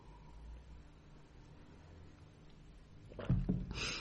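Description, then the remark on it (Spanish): A steady low background hum gives way near the end to a couple of sharp coughs in quick succession, followed by a rough, breathy exhale. “Bueno, me va a entrar la tos otra vez.”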